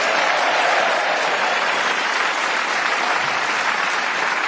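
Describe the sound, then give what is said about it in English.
Sustained applause from a studio audience for the show's scorer, a dense, even wash of many hands clapping at steady volume for several seconds with no talking over it. “And warm applause, please, for our scorer, the lady who sits on my left hand.”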